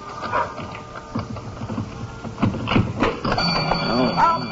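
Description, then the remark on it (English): A store burglar alarm starts ringing partway through as the store is unlocked with a key, a steady high-pitched tone that holds under voices and a dog's yips and whimpers. “Oh, I always forget that burglar alarm. Here, let me get my other key and turn that thing off.”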